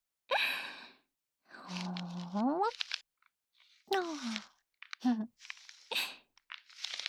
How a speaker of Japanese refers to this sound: 今度は水を圧迫する音を聞いてみましょう。それにうってつけなのがこれ。じゃーん！水風船よ。これをグニグニして何者にもとらわれない水の自由さ、強さを楽しんでね。